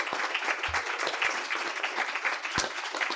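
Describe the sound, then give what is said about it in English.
A crowd breaks into sustained applause for the NFB Bell program and its students, parents, volunteers and donors, many hands clapping densely and steadily with a few sharper claps standing out, filling the room at an even level without any talking. “First of all, let's give another round of applause for the Bell program, Bell students, Bell parents, Bell volunteers, Bell donors.”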